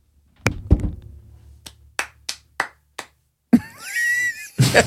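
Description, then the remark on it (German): Five or so thin, hesitant hand claps spaced unevenly apart, a sparse and unenthusiastic imitation of the applause an audience in Austria gave, preceded by a couple of dull thumps and followed by a wavering voiced sound. “Weil die waren wirklich so, so war der Applaus.”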